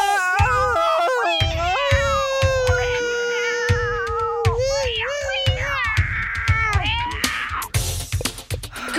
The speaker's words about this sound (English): The cat's all upset.